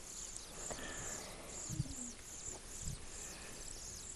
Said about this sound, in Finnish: Ja jos siinä on koiras ja naaras kummatkin ruokkimassa niitä, niin se kestää vähän yli pari viikkoa, kun ne ruokkii niitä tuolla pöntössä. 2,5 viikkoa. Poikasta vaatii kauheasti ruokaa. Että varmaan nytkin kuuluu, kun ne kerjää siellä.